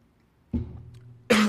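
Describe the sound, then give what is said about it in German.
A person coughs twice: a low, throaty first cough that rasps on for most of a second, then a sharper, louder burst right after. No talking. “Kurz gehustet, jetzt geht's glaube ich hoffentlich wieder.”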